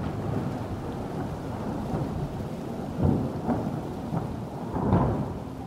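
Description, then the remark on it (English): A steady hiss of rain fills the air while low thunder rumbles beneath it, swelling into two heavier rolls partway through. No voices, just the continuous storm. “Bernard Vonnegut had made a thunderstorm.”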